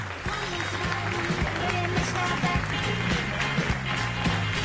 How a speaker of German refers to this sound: Ich weiß gar nicht, ob Sie es mit dem Applaus hören können.